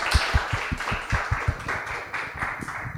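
Audience applause at the end of a talk and question session, filling the whole clip, a dense crackle of many hands with a steady, rhythmic thump of louder claps every fraction of a second. Nobody speaks over it.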